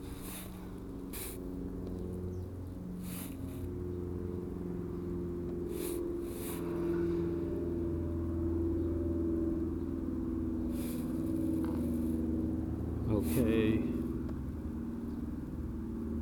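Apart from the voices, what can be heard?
airplane flying overhead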